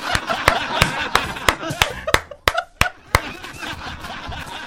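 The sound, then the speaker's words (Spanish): A group does a rain applause: about ten sharp, evenly spaced hand claps ring out over a dense patter of many hands, with laughter and chatter underneath, before the claps give way to a softer, continuous drizzle. “¡Aplauso de lluvia!”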